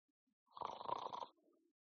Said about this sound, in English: Snoring. Lots of it. 3,000 dudes snoring.